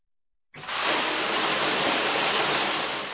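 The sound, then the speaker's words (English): A shower runs steadily after a sudden start, a dense, even hiss of falling water that holds at a constant level throughout, fairly loud, with no voices. “Take a shower.”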